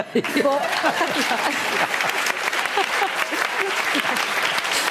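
Steady audience applause fills the whole stretch, dense and fairly loud, with many hands clapping at once and a few faint voices mixed into the crowd.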